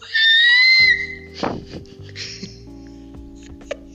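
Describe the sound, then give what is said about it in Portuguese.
A voice imitates a panicked scream: one loud, shrill, high-pitched cry held for under a second, followed by a sharp breathy burst and quieter low rumbling noises. “Isso eu vou fazer, esse barulho. Eu gritei muito.”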